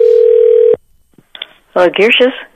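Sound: telephone dial tone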